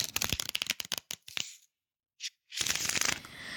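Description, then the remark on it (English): A deck of tarot cards is shuffled before a tarot reading, in two rapid bursts of crisp, fluttering riffles, separated by a brief pause with a single soft snap, then a second dense flurry of card noise. “Let me just shuffle my deck.”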